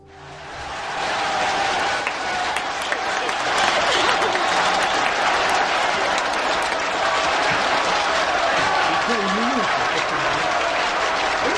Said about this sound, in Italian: Anche gli applausi, aspettate.